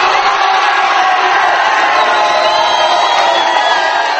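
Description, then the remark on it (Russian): A large crowd at the surface in Chile cheers and shouts in jubilation as rescued miners are brought up: a dense, loud, continuous roar of many voices with whoops rising above it, sustained without pause throughout. “Вот так приветствовали на поверхности спасенных шахтеров”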